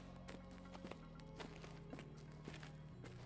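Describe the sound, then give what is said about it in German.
Soft footsteps of two people walk at a slow, steady pace in darkness, each one echoing faintly, over a low sustained hum in the background. “Ihre Schritte hallen leise durch die Einsamkeit, die sie durchschreiten.”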